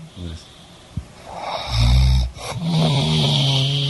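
A person snores heavily, then jolts awake with a loud, rough snort and a groggy, groaning exhale, fairly loud.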